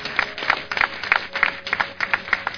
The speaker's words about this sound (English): Oh, wow. Give them a clap offering up there.